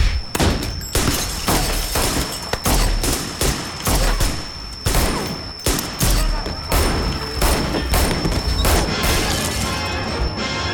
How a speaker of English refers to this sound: More gunshots.